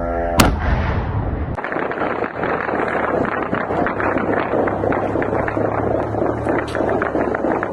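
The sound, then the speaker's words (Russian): One sharp, loud crack opens, then dense, rapid gunfire rattles almost nonstop for several seconds, a harsh continuous barrage heard outdoors as kamikaze drones are shot at over the Ukrainian capital, with no one talking. “Давайте посмотрим, как происходило сегодня сбитие и не сбитие, к сожалению, этих дронов камикадзе в украинской столице.”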